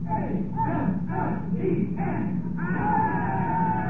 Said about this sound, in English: The operation was over. The gallery broke out in cheer.